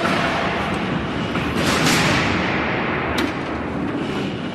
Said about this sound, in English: We've got 13 doors that we can open from this one box. And the officer would yell down the row here, rack them, just giving them a heads up that the doors are going to be closing. That's where you get the true sound of the slammer.